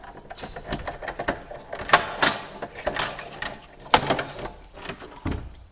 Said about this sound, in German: Was man jetzt eigentlich in keiner Kapelle sonst findet, in Deutschland, glaube ich, das ist, dass wir jetzt in der Kapelle eine Tür öffnen und dann kommen wir nicht in die Sakristei, sondern wir kommen in einen Schlafraum.